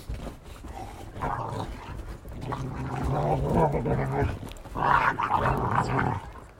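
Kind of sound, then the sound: animal, dogs playing and growling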